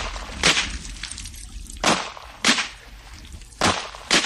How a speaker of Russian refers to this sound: Крики и гомон, звуки, как будто кто-то копается в кустах, пронзительный крик, а потом залп оружейных выстрелов.